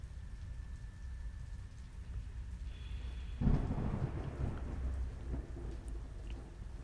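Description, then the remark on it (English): Steady rain hisses throughout while a deep rumble of thunder breaks in around the midpoint, swelling and rolling on beneath the downpour for several seconds with no voices. “You know, the thunder's pretty loud.”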